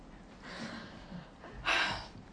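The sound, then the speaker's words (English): A breathy yawn: a long drawn-in breath that swells into a louder, airy exhale near the end, heard alone without any talking. “Didn't I tell you when I started, I'm going to stop yawning?”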